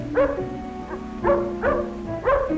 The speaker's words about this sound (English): But the big dog growls at Tippy. Is Tippy in danger? Can he run faster than the big dog?